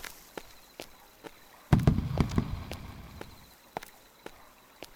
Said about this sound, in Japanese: 打ち上げ花火自体、何年ぶりに見ただろうか。